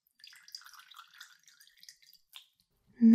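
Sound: water dripping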